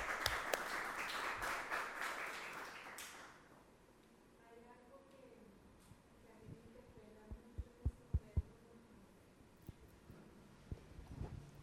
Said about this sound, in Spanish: En Rusia los actores aplauden al público. Yo voy a daros un aplauso, pero quiero oír luego vuestra voz.